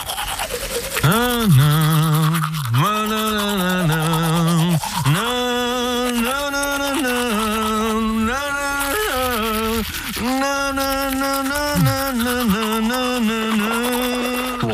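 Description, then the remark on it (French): Someone hums a famous song in a muffled, garbled voice while brushing their teeth, the bristles scrubbing steadily under the tune for the whole stretch, fairly loud. “À vous de trouver la célèbre chanson, enfin l'artiste qui se cache derrière sa brosse à dents.”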